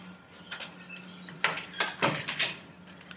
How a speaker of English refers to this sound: Okay, so let me just open the screen door here. Open the main door. Close the screen door.